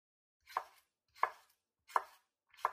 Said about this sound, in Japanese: こうやって、まな板にトマトをつけて、ゆっくり引くように。そうそう、ゆっくりでいいですよ。上手上手。ほら、包丁に集中して。ゆっくり。